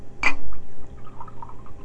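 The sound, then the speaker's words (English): A short splash of liquid being poured, starting with a brief bright clink and settling into a soft, steady trickle, with no voices. “Here, let me pour you some more.”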